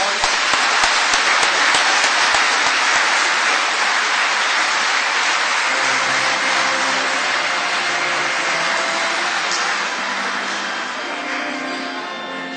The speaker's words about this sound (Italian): Facciamo un applauso.